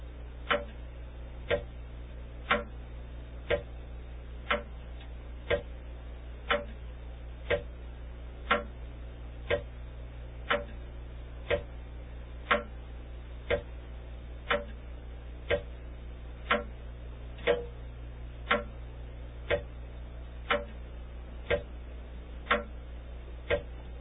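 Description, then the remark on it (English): A clock ticks steadily at about one sharp tick per second, a long unbroken run of crisp clicks over a faint low hum, with no voices. “is that foreboding ticking or just a waste of time?”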